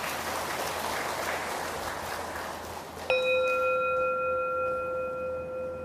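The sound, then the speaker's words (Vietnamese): A crowd of Buddhists at Phổ Môn pagoda claps in praise of families, a steady wash of applause for about three seconds, then a bright bell-like tone rings out with sustained overtones as the clapping fades away. “Cho một tràng vỗ tay tán dương các gia đình đó.”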